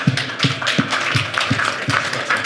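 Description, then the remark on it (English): Audience applause at a blockchain and crypto event: a steady wash of many hands clapping, dense and crackly, with a faint rhythmic thump pulsing underneath at an even pace. No voices can be heard. “So let's give those three studs a round of applause.”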